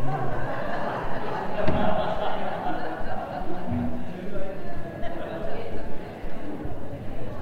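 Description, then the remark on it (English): People at an Anglican church gathering chat at once in small groups, with thuds and scraping as chairs are turned around, breaking through the steady murmur of voices. “No, don't turn the chairs around.”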